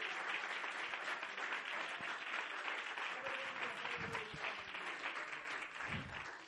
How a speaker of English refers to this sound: Would you clap your hands into the Lord for a moment?